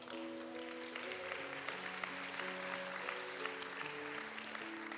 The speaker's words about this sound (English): If you don't understand, that clap was two things. It was saying to those who lifted your hands, welcome. Welcome.